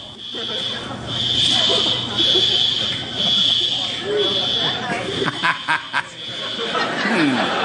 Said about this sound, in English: When I first heard that, I thought it was the crickets a comedian hears. No. What is that? It's probably some kind of smoke alarm, fire alarm.